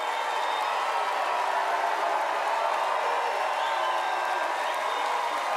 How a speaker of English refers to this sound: A crowd gives him a standing ovation as he approaches a mic stand. He waves and looks out over the crowd.